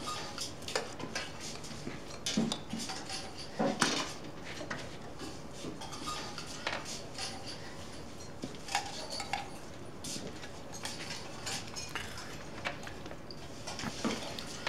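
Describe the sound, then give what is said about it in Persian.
Metal spoons and cutlery clink and scrape against plates and bowls in a steady, irregular patter, with occasional sharper clatters, over a low hum. No one speaks. “من قاشق تو برداشتم.”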